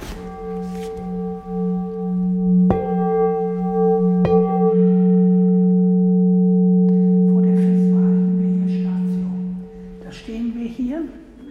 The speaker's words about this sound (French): Qu'est-ce que c'est que cette cloche ? C'est un gong ? C'est un gong.